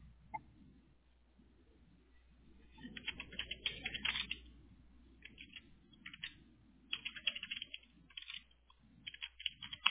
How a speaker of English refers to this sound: It's just typing my name, right? Yes. Uh-huh.